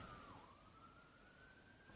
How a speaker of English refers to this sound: I can hear the police. So. Yeah, that would be out my window.